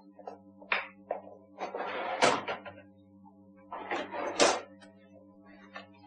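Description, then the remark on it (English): A drawer holding cash slides open and then shut as someone gets money from it, each scraping pull ending in a solid knock, with a few small clicks and rattles around them over a steady low hum. “I can get the money in a moment. It's in this drawer over here.”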